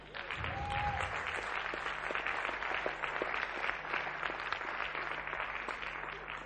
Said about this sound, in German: Ja, gib doch Gott mal einen Beifall.